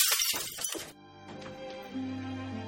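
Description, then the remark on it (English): A sudden, loud crash of glass shattering, with bright splintering fragments scattering for under a second before fading into a quiet, steady low hum. “Well, we were ahead. Now you have more glass to clean up.”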